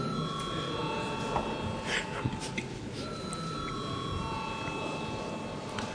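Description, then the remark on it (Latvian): A steady electric bell rings in a parliament chamber ahead of a vote, without pause for the full six seconds, a sustained, even metallic tone over faint background murmur and rustling. “Lūdzu zvanu.”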